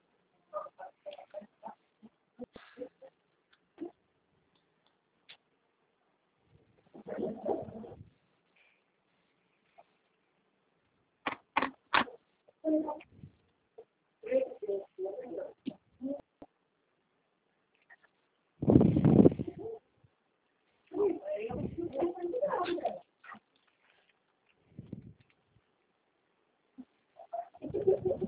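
A rooster squawks in repeated harsh, irregular bursts, with short clucks in between and one louder, drawn-out cry near the end. No one speaks.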